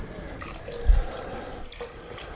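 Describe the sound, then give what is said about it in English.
Water is poured back into a container, a soft continuous splashing with a dull thump near the start, with no one talking. “There's still water in there. All right, Dominic, if you can pour that back in there.”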